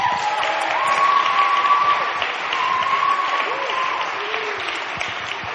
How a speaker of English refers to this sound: Can we have a big round of applause for Mike Franks